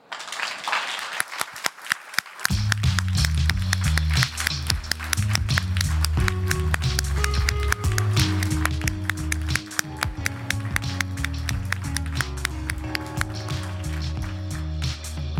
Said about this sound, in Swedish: Gör vi en sån här tv-applåd så att så länge jag håller upp handen så applåderar ni. Och sen kan ni bara sluta när jag håller ner handen.